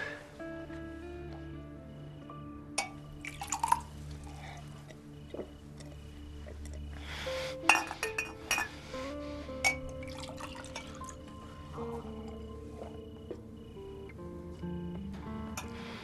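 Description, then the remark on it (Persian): Water being drunk from a glass: a few scattered liquid sloshes and soft glass clinks, set against a steady low background hum with no talking. “پس چرا من آب میخوری؟”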